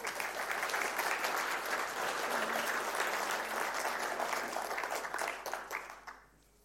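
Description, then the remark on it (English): An audience applauding steadily, clapping for God after a talk about Christian faith, a dense patter of clapping that holds strong for several seconds before thinning out and fading away at the end. “And I think we can give God a big clap for that.”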